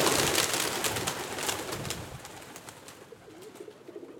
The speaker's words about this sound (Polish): Niestety głównie chyba z odchodami i karmieniem na różnych placach czy przystankach oraz nie wszystkim miłym, donośnym gruchaniem. Gołębie miejskie są też niestety bardzo agresywne w stosunku do siebie, co można zaobserwować bardzo często.